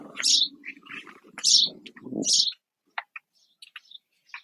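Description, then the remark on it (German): Birds chirp in short bright bursts in the early morning, when the birds are waking up, over a low murmur of background noise, then a few sparse, fainter tweets continue after the murmur drops away. “Es ist, glaube ich, ein bisschen leiser, aber du hörst die Vögel immer noch.”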